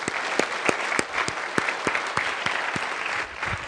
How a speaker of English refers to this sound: How about congregation? I think we need to give them a big round of applause.